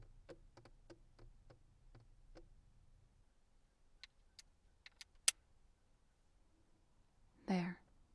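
A door being locked: a run of soft, evenly spaced taps, then several sharp metallic clicks of the latch, followed by a short muffled thud. No one speaks.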